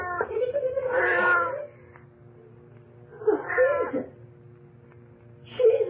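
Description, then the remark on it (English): A cat named Ophelia, shut inside a freezer in a cellar, lets out three plaintive, drawn-out yowls: a long wavering cry, a shorter rising meow after a pause, then a brief call cut off at the end, over a low steady hum. “Hey, that cat sure is lucky.”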